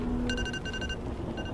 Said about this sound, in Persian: صدای زنگ گوشیه.